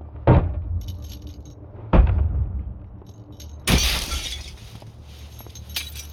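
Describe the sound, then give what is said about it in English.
A plexiglass window in a van is smashed to free someone locked inside: two heavy, booming blows, then a third that bursts into a bright, crackling shatter with scattered debris tinkling afterward. No voices are heard. “Fucking plexiglass!”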